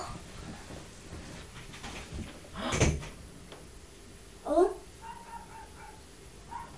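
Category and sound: animal, dog barking next door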